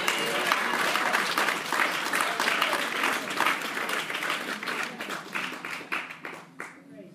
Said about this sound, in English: Somebody give God a clap of praise. Come on.